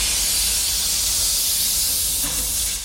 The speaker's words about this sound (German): Noch ein bisschen Dampf raus, dann stelle ich den Boiler ab. Der Dampf im Kessel reicht für rund 50 Minuten Fahrt.